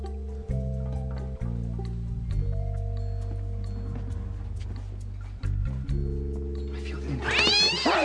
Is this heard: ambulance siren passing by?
no